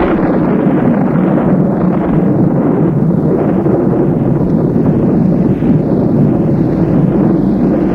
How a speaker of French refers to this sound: Le bruit de l'orage, les éclairs qui éclairent la pièce par intermittence.